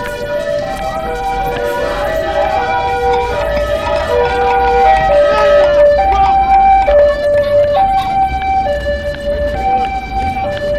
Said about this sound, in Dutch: De achterkant heeft erg veel politie op de been. De politie langs gereden.